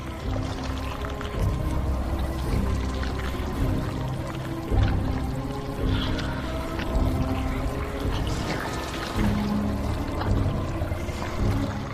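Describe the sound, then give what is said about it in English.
Thick, sticky honey drips and is scooped into Pooh's mouth in a steady wet churn, dripping down his face and nose, with soft squelches and splashes continuing throughout and no voices. “It drips down his face and nose as he scoops it into his mouth.”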